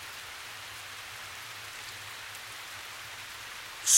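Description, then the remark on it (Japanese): Steady rain falling with a dense, even hiss, broad and unbroken for several seconds, with a faint low rumble underneath and a sudden louder burst right at the end. “こちとらみてえな悪党には通用しねえ雨だよ。”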